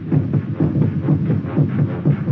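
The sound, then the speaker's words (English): A fast, pounding heartbeat of a person gripped by fear: deep, muffled thumps in a steady quick rhythm, about five beats in two seconds, loud and low-pitched with no voices. “It's your heart, of course, that you hear, stepping up its cadence, pounding under the forced draft of fear.”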